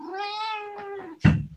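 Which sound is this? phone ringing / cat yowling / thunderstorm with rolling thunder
cat yowling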